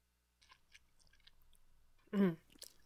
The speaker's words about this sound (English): She's drinking Franzia boxed sangria. I'm going to take a sip of this fine Tecate and join you when you're drinking your Franzia boxed sangria. Let's do it together.